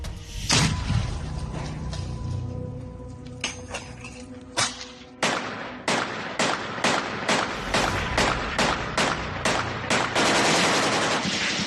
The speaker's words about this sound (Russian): Прямо сейчас союзные силы морпехов, бойцов ДНР, чеченского СОБРа зачищают, выкуривают их из подвалов и катакомб советского металлургического гиганта «Азовсталь». Как происходит операция, давайте посмотрим. Выстрел!